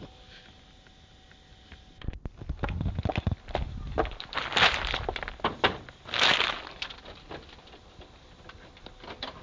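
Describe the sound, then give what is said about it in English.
A sudden sharp clatter as keys hit the floor, followed by several seconds of scattered metallic jingles and clinks, with two brighter rattling bursts before it fades. “Oh, I've dropped my keys.”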